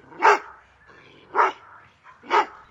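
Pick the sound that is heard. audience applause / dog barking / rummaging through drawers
dog barking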